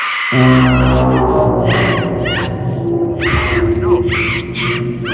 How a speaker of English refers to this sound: Here are some great screams for you. We always like good screams, right?